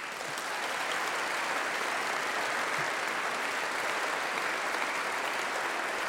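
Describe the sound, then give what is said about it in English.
Sustained audience applause for musicians after a jazz ensemble performance in an auditorium at Pacific Lutheran University, a steady dense wash of clapping hands that holds at an even, loud level for the whole stretch with no voices breaking through. “If I could impose upon you for a little more applause, I would like to also thank Pacific Lutheran University for allowing us to use this beautiful auditorium for this performance.”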